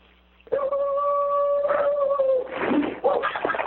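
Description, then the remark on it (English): A dog howls in a long, steady sustained tone for about two seconds, then breaks into rougher, wavering yips and whines, loud. “Some dog likes my comment.”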